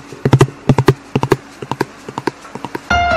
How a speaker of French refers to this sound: Après, tu as aussi le cheval dans la nuit, c'est pas le même, et qui s'enfuit. Donc tu es dans la grange et le cheval est à l'extérieur, c'est pas en direct. Alors ça donne un